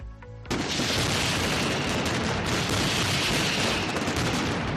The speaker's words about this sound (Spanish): Así suenan los petardos, la traca de la mascletá en la plaza del Ayuntamiento de Valencia, un ruido ensordecedor que podríamos escuchar este año